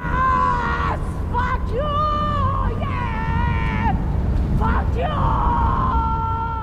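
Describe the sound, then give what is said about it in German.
Several young women who are high stick their heads out of a moving car at night, pull off their headscarves and scream into the night, long high-pitched cries overlapping one after another, loud, over a steady low rumble of engine and road noise. “Sie stecken den Kopf dann durchs fahrende Auto, reißen sich diese Kopfbedeckung runter und schreien einfach in die Nacht.”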